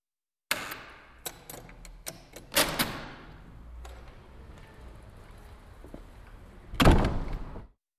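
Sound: doors opening and closing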